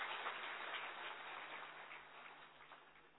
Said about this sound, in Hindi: एक बार और जोरदार ताली बजाएं इस बच्ची के लिए।